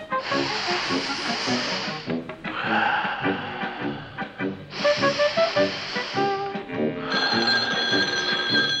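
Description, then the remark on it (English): A telephone rings in repeated bursts of a couple of seconds each, loud, over a constant hissing noise like escaping gas, with no one speaking. “Oh, dear, it's the phone.”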